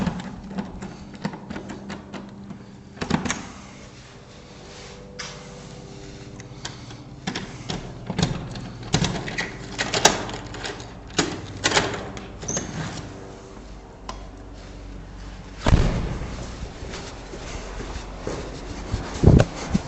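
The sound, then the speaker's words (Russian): Metallic clicks and rattles of keys being tried in the lock of a ground-floor apartment door, with scraping and clunks, then a door latch giving way and the door opening. Irregular, with no talking. “Я нашел, от чего этот ключ, к чему подходит, да.”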